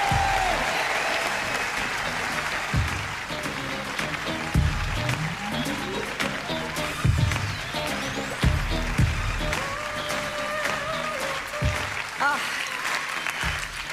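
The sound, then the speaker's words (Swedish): A large audience applauds steadily as comedian Anna-Lena Brundin is introduced. Dense clapping fills the room for about fourteen seconds, with a few louder bursts and some scattered cheers. “Ge en stor applåd. Kom igen!”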